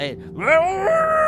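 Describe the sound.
A person imitates the scream of the Draugen, the Norwegian ghost of a lost sailor, with one eerie vocal wail that swoops upward in pitch and then holds a strained, moaning tone for about a second.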